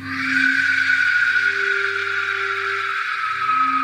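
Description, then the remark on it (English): An Aztec warrior whistle lets out one long, loud, harsh shriek, airy and rasping with a piercing high edge and faint low droning undertones, holding steady for about four seconds. “It's said you would know the Aztec warriors were approaching your village when you heard this whistle.”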